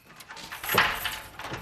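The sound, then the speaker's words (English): A door is unlocked and swung open for a woman with a cat carrier, a short scrape and clunk followed by a soft rush of movement, with no voices. “unlocks the door for a woman with a cat carrier.”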